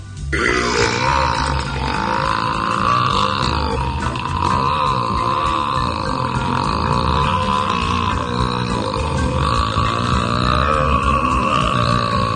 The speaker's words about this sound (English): 3, 2, 1, burp.